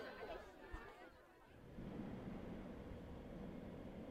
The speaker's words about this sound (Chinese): 嗯，今天回姥姥家，一会儿呢需要坐地铁，跟紧妈妈，不要被解散了。这个点人多了。